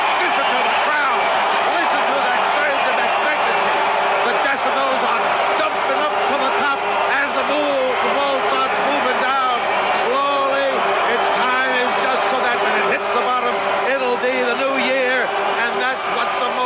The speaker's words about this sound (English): Listen to the crowd. Listen to this surge of hope for the new year that's coming as we greet it in traditional fashion in Times Square, New York.